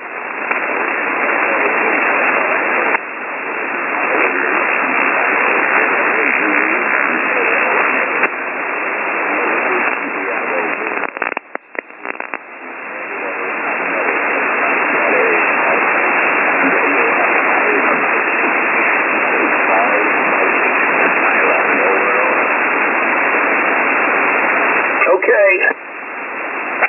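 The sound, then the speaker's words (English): A weak shortwave amateur radio signal from station HS0ZOE in Thailand, received with the antenna pointed away from it, is buried in steady, loud hissing static, with a faint, garbled voice barely emerging through the noise for the whole half-minute, plus a few brief crackling dropouts. “I'm having a poor copy here. My antenna is way off of you.”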